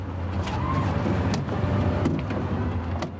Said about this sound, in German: Von seinem Bürofenster aus kann er das Treiben am Schwanenplatz beobachten. Gerade kommt wieder ein Bus mit Chinesen an.